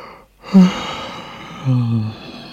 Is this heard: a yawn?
yes